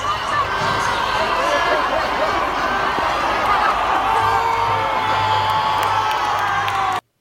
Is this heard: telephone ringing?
no